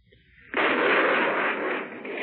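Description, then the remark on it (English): After a brief quiet moment, ships' anti-aircraft guns in the Channel open up during the invasion as a Nazi plane swoops overhead, a sudden, loud barrage, the shots blurring into a dense, continuous roar that holds steady to the end. “reared suddenly up to fire one barrage after the other.”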